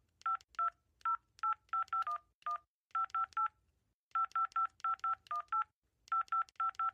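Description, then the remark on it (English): A long string of telephone keypad tones, short beeping presses in quick bursts with brief pauses between groups, as someone dials a lengthy phone number to call someone. Clear, with no talking. “Jeez, I'll just call someone.”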